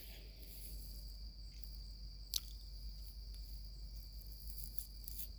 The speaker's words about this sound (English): It's 4 o'clock in the morning, these crickets, this peace, this cool weather, it's such a nice feeling.